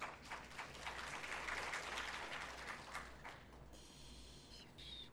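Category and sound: crowd, audience applause welcoming newcomers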